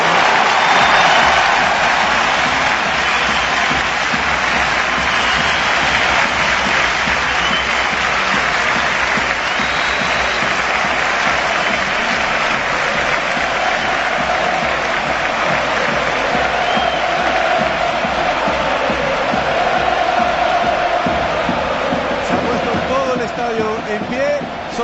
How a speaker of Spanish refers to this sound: estoy viendo gente que se está poniendo de pie para aplaudir la salida de uno de los grandes futbolistas de la historia del Depor